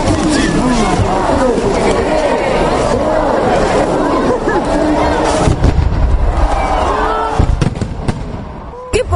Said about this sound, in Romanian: Nici momentul retragerii torțelor nu a fost împiedicat de vremea urâtă, iar spectacolul artificiilor rezultat a fi splendoarea serii.